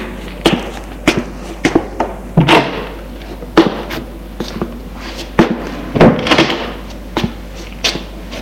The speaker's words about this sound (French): On monte les escaliers et au premier étage ouvre une porte.